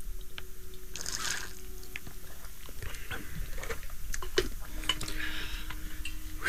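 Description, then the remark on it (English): Wet sipping and swallowing sounds of people drinking water, with small clicks and a faint clink of a glass, repeating irregularly over a quiet hum, with no talking. “So with that, I'd like to consume some water as we actually, you know, drink consciousness in our way.”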